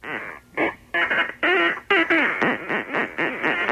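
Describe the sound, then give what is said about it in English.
A squawky, garbled cartoon-duck voice quacks and sputters continuously for several seconds, sounding thin and band-limited as if coming through a telephone line. “I can't understand what he's saying. Is anybody around here speak Gaddafi Duck?”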